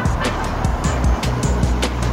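A steady, dense rumble of big-city road traffic heard through a window in the morning, with engine noise droning continuously and faint recurring bursts of passing vehicles.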